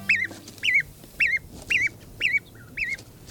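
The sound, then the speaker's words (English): Baby geese (goslings) leaving the nest, peeping: a run of about seven high, wavering chirps at a steady, quick rhythm, clear over a faint background hiss, with no talking. “These baby geese, or goslings, are leaving the nest.”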